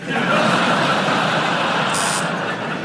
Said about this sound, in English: And there I was pretty sure about it when I pressed the buzzer, but I can't now think what the connection would have been.